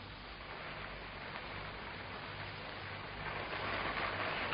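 rain

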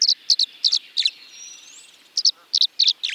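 tree swallow song

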